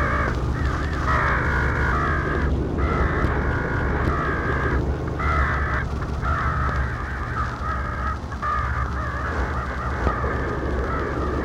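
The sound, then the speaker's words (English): An immense flock of crows circles, cawing continuously and raucously, many harsh calls overlapping into a dense, loud chorus over a low steady rumble, with no voices. “My eyes were attracted to the immense flock of black birds that hovered directly below me.”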